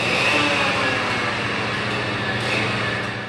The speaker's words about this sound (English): Huge machines run back and forth on long stretches of track, grinding down rails and carrying new ones. Crews deep in the tunnels take huge saws to pieces of metal, and cranes drop other pieces on the ground.